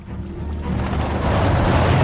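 Water pours out in a steady, rushing gush that swells slightly louder after the first moment, a continuous close splashing wash with no one speaking.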